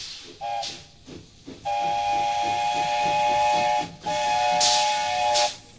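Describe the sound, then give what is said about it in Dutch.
A steam tram locomotive whistle sounds in several blasts, one short then two long sustained ones, over a steady broad hiss of escaping steam and a rhythmic chuffing beneath, loud. The 25-ton 1908 locomotive, formerly used at the Rotterdam gas works, pulls three carriages on the Hoorn–Medemblik line. “Zo rijdt er nu weer een stoomtram van Horen naar Medemblik.”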